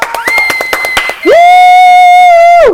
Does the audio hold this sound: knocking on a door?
no